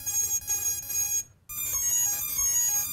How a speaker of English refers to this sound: And now if I take it. I don't know if you guys can all hear that on the video, but the ESCs are beeping away.